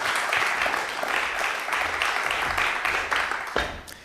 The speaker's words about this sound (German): Applaus für Heurikus.